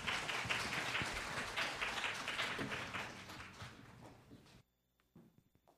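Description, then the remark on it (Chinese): A church audience applauds to welcome a brother giving a testimony, with dense, steady clapping for about four and a half seconds, fading out, followed by a few scattered light taps and rustles. “我们掌声欢迎我们的弟兄。”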